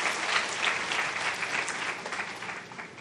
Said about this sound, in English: Can we just give our volunteers a big, big round of applause, please?